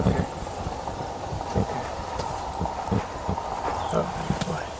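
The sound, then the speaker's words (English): In a film scene, a rodeo champion trains a horse: its hooves thud and clop in an uneven, steady rhythm, moving over ground amid a continuous outdoor background hum. “To set this up a bit, this is a scene where the main character Brady, a rodeo champion recovering from a head injury, played by Brady Jandreau, is working to train a horse.”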